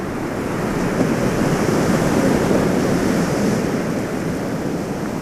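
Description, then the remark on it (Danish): Large, broad waves break just off the coast in cascades of white foam, a continuous, steady roar of surf, broad and hissing with a low rumble underneath, holding an even loudness throughout with no voices. “De holder en orange gnistren fanget i sig, indtil de dogen brækker lidt ud for kysten i store kaskader af hvidt skum.”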